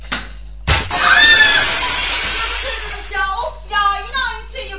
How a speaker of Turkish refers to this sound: Eyvah. Cam kırıldı.